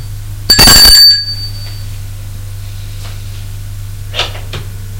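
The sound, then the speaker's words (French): A doorbell at an upstairs door gives one loud, bright ring lasting about a second, then fades into a steady low hum broken only by a few faint rustling sounds. “Il se peut qu'il ait oublié, sonne à la porte.”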